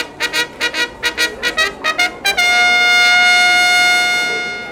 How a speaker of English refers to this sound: At 8 p.m, the big top is full. People are excited. Let the show begin! The orchestra plays a fanfare.